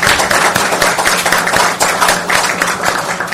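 An audience applauds, many hands clapping in a dense, steady patter that stays loud and even for a few seconds with no voices over it.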